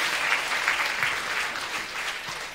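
A crowd applauds steadily, a dense wash of many hands clapping at an even, sustained level with no pauses and no voices standing out.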